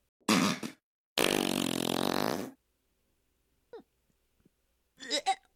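fart

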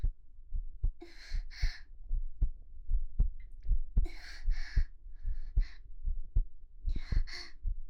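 heartbeat

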